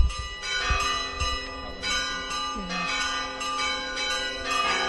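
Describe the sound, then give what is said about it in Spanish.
Church bells in Teruel, Spain, peal at midday in protest against depopulation, in a rapid, overlapping cascade, their bright ringing tones sustained and layered over one another, fairly loud and steady throughout, with a faint low background rumble. “Así han sonado las campanas este mediodía en Teruel.”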